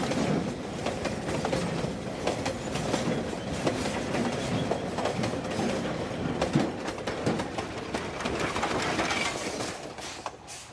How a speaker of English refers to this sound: Dongbo Lizan is where the shift change for the East Pit crews takes place. It is also the starting point for the workers' train, which carries the new shift workers from Dongbo Lizan into the pit and onwards to Zibo Lizan.